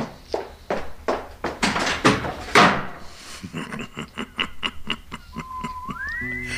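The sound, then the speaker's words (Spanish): A quick run of hollow thuds builds to a loud door slam as someone leaves, then lighter clicking taps follow and a short rising whistle sounds near the end, with no one speaking. “Que se fue dando un portazo, no importa, pero escuchó.”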